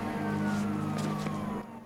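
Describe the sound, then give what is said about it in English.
A police car siren wails loud as the car sweeps past on a road, heading toward burning wreckage, its pitch sliding slightly downward over a steady engine rumble before cutting off abruptly. “A short way up the road, they pass a police car heading towards the burning wreckage.”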